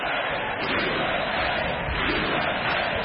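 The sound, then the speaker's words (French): A large crowd applauds and cheers loudly and without pause, a dense, steady roar of clapping and shouting voices filling the whole stretch, during Donald Trump's speech, after he saluted the large number of women elected to the US Congress in 2018. “C'était un des moments les plus applaudis de son discours.”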